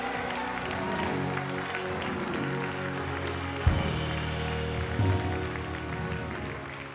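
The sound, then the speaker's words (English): A church audience breaks into sustained applause for Jesus, dense hand clapping from many people that holds steady throughout, with a low hum and a brief thump partway through beneath the clapping. “Give Jesus a big, big hand clap.”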